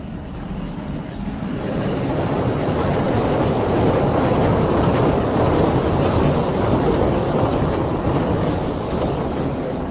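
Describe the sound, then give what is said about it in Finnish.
A loud elevated subway train on iron pillars above Broadway rumbles and rattles over steel beams overhead, building within the first two seconds into a steady, dense roar of clattering metal and rushing noise, then stops as air hisses from its valves. “Siinä juuri yläpuolellamme juna pysähtyi. Tuonne ylös teräspalkit vaan kolisivat, kun se siitä pyyhälsi ja sitten kuului pihinää, kun ilmaa laskettiin venttiileistä.”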